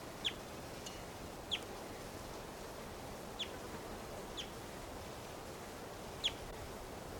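wild bird calling

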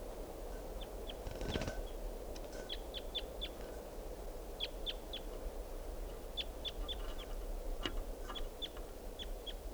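wild bird calling

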